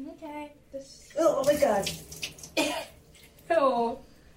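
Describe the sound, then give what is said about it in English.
Cold onion water splashes and pours over a person's hair in a couple of short bursts as it is washed, mixed with the person's startled vocal exclamations and gasps. “I need you to wash mommy's hair with this onion water, and this is what happened.”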